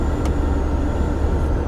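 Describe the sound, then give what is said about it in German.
A steady, thin high whistle from the ventilation of Luna, a Bulli van over 20 years old, rides over the constant low rumble of driving on a sunny day with the windows wound down, with two brief hissy bursts breaking through. “Die Lüftung im Bulli pfeift.”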